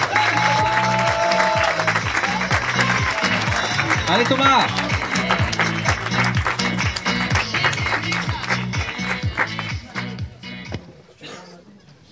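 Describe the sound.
Loud, dense audience applause for a comedian fills the room over a steady thumping music beat, with a brief shout from someone in the crowd, before the clapping tapers off and fades near the end.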